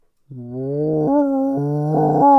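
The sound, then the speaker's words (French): A person's voice imitates a rutting stag's bellow: one long, low, droning call lasting about two seconds, fairly loud, with its pitch stepping up and down as it goes. “C'était notre version du brame du cerf.”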